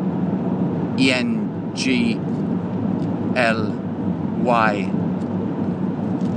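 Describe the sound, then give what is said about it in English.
Steady low rumble of a car cabin while the speaker drives, constant and fairly loud throughout, with a person's voice cutting in with four short bursts over the road noise. “I'm driving a car.”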